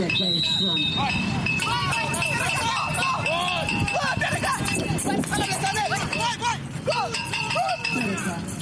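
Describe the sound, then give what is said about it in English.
The bell inside a blind football ball jingles and rattles almost continuously in rapid bursts as blind players track its movement, mixed with overlapping voices calling out and the patter of running feet throughout. “That is an alarm from a ball used by blind soccer players. The ball is equipped with a bell that rings to alert the players to track its movement and fire a shot towards the goalpost, which makes noise to alert players.”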